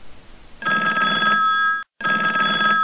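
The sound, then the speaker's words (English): A telephone rings loudly with a call from a salesperson, in two bursts of steady electronic trilling separated by a brief silence, after a short stretch of soft noise. “I looked at the caller ID on my phone. Although it was a salesperson, I picked up.”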